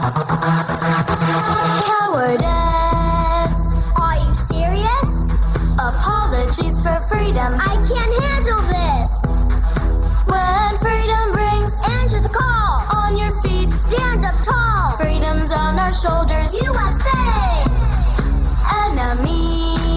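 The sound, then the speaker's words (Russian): Children sing a rousing hip-hop campaign song praising President Trump and denouncing America's enemies, over loud, steady instrumental backing, the melody continuous from start to finish after a brief opening beat. “Прыгающие ангелочки пели, например, такое: «Враги свободы, услышьте эту музыку.”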